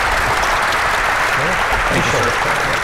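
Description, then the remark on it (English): A large audience claps steadily and loudly for Mike Rogers and Nolan Finley, a dense, continuous wash of applause, with faint voices murmuring underneath toward the end. “Everybody give Mike Rogers and Nolan Finley a big round of applause.”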